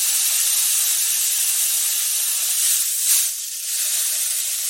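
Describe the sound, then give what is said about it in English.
Steady rain hisses without a break, a bright, even wash of high-pitched noise with a brief swell near the middle. No voices are heard. “And as we conclude our sound bath, let the rain six calming rhythms bring you back to awareness.”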